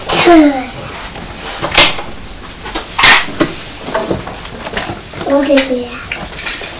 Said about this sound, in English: Poor Thomas, coughing and sneezing.